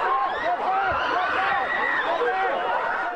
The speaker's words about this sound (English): That's the sound as police tried to disperse a crowd that had gathered in front of the city's District 4 police station. Police used pepper spray at one point.